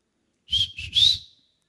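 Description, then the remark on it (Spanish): A short, clear whistled signal of three quick notes, the last one gliding upward and trailing off, as a person arriving home whistles so the family opens the door, with no one talking. “Usted llega a su casa, llega con las cosas, y usted silba y le abren la puerta.”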